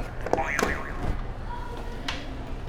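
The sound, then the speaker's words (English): A toy buzzer button is pressed: a couple of sharp clicks followed by a short, wobbly boing-like electronic tone at moderate volume, then one more click after a pause. “Can you press another buzzer?”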